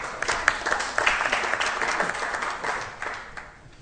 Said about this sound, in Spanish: Pueden aplaudir también, sí.